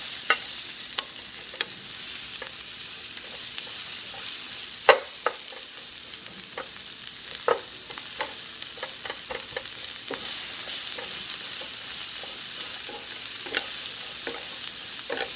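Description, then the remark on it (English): Vegetables seasoned with black pepper, salt and lemon pepper stir-frying in a pan on high or medium-high heat on a small tabletop stove: a steady, bright sizzling hiss runs throughout, broken by irregular sharp clicks and scrapes of a utensil stirring, with no voices. “And you want to saute or stir fry this on a high or a medium high, depending on how high your stove gets.”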